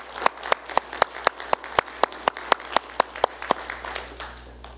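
Audience applause with a steady, even beat of sharp claps about four per second standing out above a dense wash of scattered clapping, gradually thinning toward the end. No one speaks.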